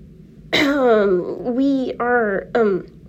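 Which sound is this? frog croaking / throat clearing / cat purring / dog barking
throat clearing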